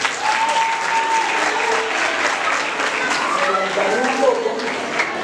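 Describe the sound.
Steady, dense applause from a crowd fills the whole stretch, loud and unbroken, with faint voices and a few whoops rising through the clapping.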